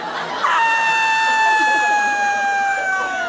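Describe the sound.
A person reenacts a long, piercing, high-pitched scream, held steadily for about three seconds and sliding slightly lower near the end, loud, mimicking a terrified shriek.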